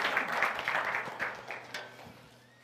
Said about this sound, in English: Thank you so much, worship team. Give a round of applause for the worship team. Good job.